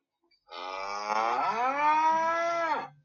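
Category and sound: animal, cow mooing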